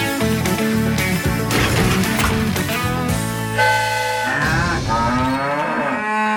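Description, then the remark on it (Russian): Several cows moo loudly and close by, their long, overlapping bellows filling the whole stretch with rich harmonic calls that rise and fall, with no talking. “Ну-ка, придержите коней, вернее, коров.”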